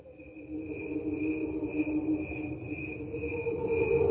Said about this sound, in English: So these are crickets slowed down electronically. What you're going to be hearing is actual crickets on the top, and then the rest of the angels underwater are crickets slowed down.